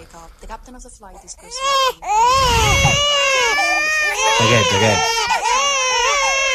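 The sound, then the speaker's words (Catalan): An infant cries on an airplane: loud, sustained high-pitched wails with rising and falling pitch, following a brief moment of muffled voices at the start. “Aquests, i és que una aerolínia ha decidit introduir una zona prohibida als infants dins els seus avions.”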